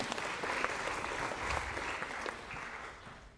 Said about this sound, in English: But thank you. A round of applause for our two feistier players.